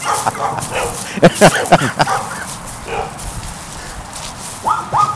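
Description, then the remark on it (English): Dogs bark near a lower sculpture garden in a quick cluster of sharp barks, then fall quiet before another short pair of barks near the end, over steady outdoor background noise. “We walk across these flipped granite countertops and across a narrow footbridge toward the barking dogs near the lower sculpture garden.”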